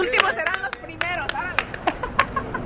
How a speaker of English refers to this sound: Just some people standing on the corner, applauding the bicyclists.